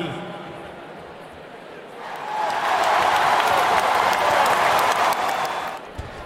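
applause

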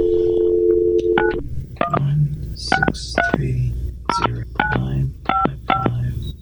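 telephone touch-tone dialing

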